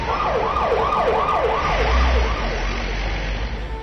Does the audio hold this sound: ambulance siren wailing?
yes